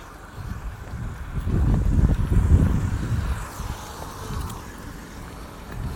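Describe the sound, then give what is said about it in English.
A car passes on a road, its low rumble building to a loud peak and then fading over a few seconds, with steady wind noise throughout. “Watch this car, son.”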